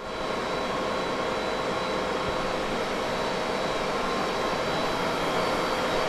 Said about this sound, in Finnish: Tämä on todellista digitaalista huminaa. Tässä Kansallisarkiston serverit käsittelevät muun muassa karttoja, mutta myös muuta asiakirjatietoa.